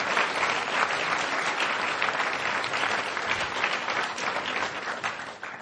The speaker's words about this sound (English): So before we do that, though, please give our candidates a round of applause for making it through, all 16 of them.